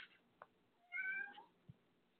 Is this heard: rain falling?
no